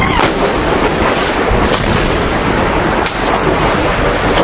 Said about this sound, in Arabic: قصف حنيف على حي بابا حي الانشاءات. قصف حنيف على حي بابا من حي الانشاءات.